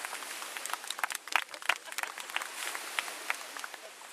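An audience applauds to welcome a speaker from UBC, many hands clapping in a dense, irregular patter that holds steady at a moderate level for about four seconds, with no voices.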